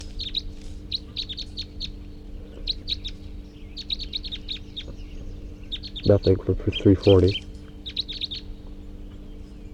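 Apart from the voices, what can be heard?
wild bird calls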